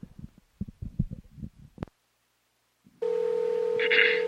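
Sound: telephone dialing tones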